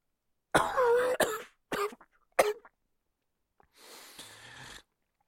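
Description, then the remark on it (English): A harsh, rasping cough bursts out, followed by several shorter hacking coughs in quick succession, then a softer breathy rasp as if clearing the throat; fairly loud, with no talking. “I cough, and wrought my body will burst.”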